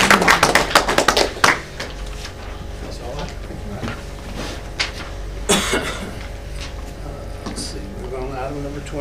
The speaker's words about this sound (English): So one more round of applause for Cherokee County Board of Education.